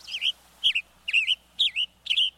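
A Western Tanager gives five short, rising-and-falling chirped calls at an even pace, about two per second. The calls are clear and moderately loud, with no other sounds.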